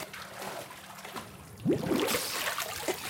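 Soft, continuous trickling and gurgling of water, with a louder splashing swirl midway as a person dunks their head under the water, then steady dribbling continues; no talking.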